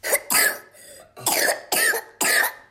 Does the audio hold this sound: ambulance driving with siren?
no